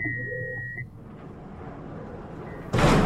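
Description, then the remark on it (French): A steady electronic beep fades into a low rumbling hum, then a loud, abrupt burst of noise at the end as a door is shut behind people who have just come in. “Est-ce que vous pouvez fermer la porte derrière nous ?”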